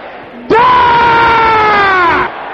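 A large audience at a morning worship service lets out one sustained, loud collective shout, many voices roaring together for nearly two seconds before cutting off, with a faint murmur before and after.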